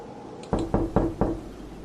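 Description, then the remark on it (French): Four soft, hesitant knocks on a door at 1 a.m., in a quick, evenly spaced run, each a short dull thud, with no voices and only a faint hush around them. “On frappait bien à ma porte, à 1h du matin.”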